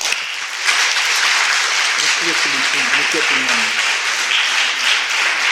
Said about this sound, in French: Merci beaucoup, beaucoup, et on va encore t'applaudir très fort.